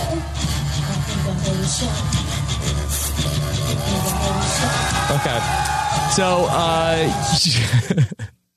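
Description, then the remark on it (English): A concert crowd roars and whoops continuously over loud music with a pounding low bass during a band's live show last night, shouted voices rising and sliding near the end before the sound cuts off abruptly. “But so let's see if I can play a clip from their concert last night.”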